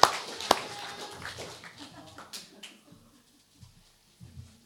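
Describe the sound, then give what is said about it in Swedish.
A short burst of audience applause for a preacher: a couple of sharp, loud claps, then a thinner patter that fades out within about two seconds, leaving near silence with a few faint thumps. “Tack Jesus, säger vi med en applåd till honom.”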